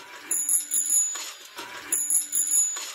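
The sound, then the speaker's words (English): A small bell sitting on a table rings by itself with nobody touching it, in quick, rapid bursts, two clustered rounds of bright metallic jingling with a steady high shimmer, with no one speaking. “And then the bell starts going off again, but it's just sitting there on the table.”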